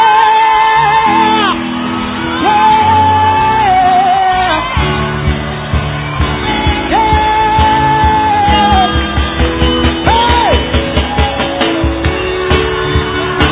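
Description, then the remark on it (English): An audience in a church shouting and whooping loudly together, with long sustained cries rising over a dense, continuous roar of voices and a pulsing, rhythmic beat building toward the end. “You're not shouting for nothing. You're the victorious one.”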